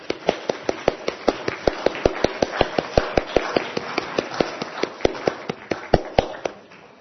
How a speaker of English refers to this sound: So let's give a round of applause for our new church council for the year.